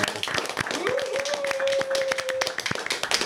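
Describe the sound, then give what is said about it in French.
An audience claps steadily for about three seconds, a dense patter of many hands. A sustained mid-pitched whistle-like tone rises and holds for part of the applause. “On peut même faire applaudir tout le monde”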